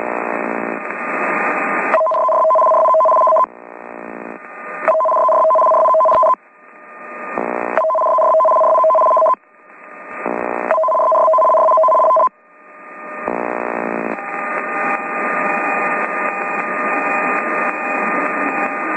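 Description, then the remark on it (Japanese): A CBC Radio test broadcast of the emergency warning signal, used for special broadcasts of important information such as earthquakes and tsunamis: a loud, harsh warbling of two alternating mid-pitched tones in repeated bursts with brief gaps, riding over a steady hiss, with no voices. “これで緊急警報信号の試験放送を終わります。”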